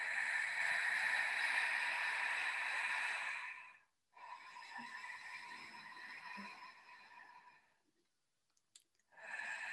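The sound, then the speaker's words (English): Slow breathing through an open mouth, done as a demonstration so the breathing is audible: two long, airy breaths of about four seconds each, then a short pause before another breath begins. No one speaks. “I was breathing through the mouth to demonstrate so that you could, so it was audible, but preferably through the nose.”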